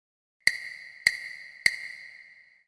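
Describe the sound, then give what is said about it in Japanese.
Three evenly spaced, sharp knocks on a door, each followed by a bright ringing tone that lingers and slowly fades. Heard alone, with no voices. “リズム当てクイズ。誰のドアをノックしたか当ててみよう。”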